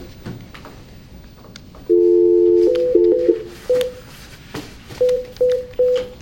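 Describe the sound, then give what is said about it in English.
A steady phone dial tone starts, then breaks into a quick run of keypad beeps as a number is dialed, followed by three evenly spaced short tones, clear with no talking. “Let's just put them on phone call.”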